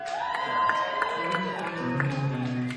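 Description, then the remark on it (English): A crowd cheers and whoops steadily, many voices overlapping in a loud, sustained roar with scattered sharp claps and shouts rising through it. “Sounds like a Sean Haskins crowd.”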